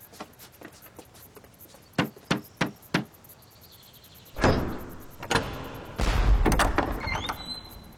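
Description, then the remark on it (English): Four loud, heavy bangs on the door of King Thoas's temple in quick, even succession, followed by a rumbling, clattering noise as something shifts and scrapes. “Ho! Unloose the bolts, you lot, inside! Let your master know I'm here at the door, preparing a pile of pretty bad news.”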